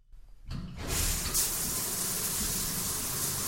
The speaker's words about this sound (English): You turn on the faucet and out comes clean, fresh water.